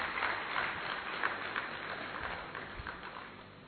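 Sustained audience applause for a speaker fills the space, a dense wash of many hands clapping at a steady level for several seconds, with no talking over it.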